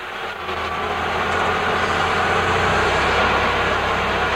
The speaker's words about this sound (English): At the Santa Teresa border crossing in southern New Mexico, a forklift moves lumber back onto a truck.